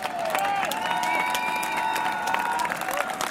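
An outdoor crowd applauding steadily, dense overlapping claps at an even loudness throughout, with drawn-out cheering voices or whistles rising over the clapping, applauding friends who came by tractor from the Nantes region.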